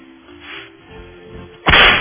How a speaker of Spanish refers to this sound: Se merecen los latigazos. Con todo, vamos, démosle.